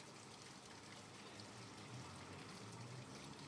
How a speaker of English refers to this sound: Well, I'm home. Can you hear my water feature?